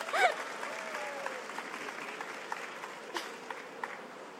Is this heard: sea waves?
no